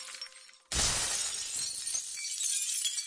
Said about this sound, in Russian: Робот облокотился на стекло, и оно разбилось.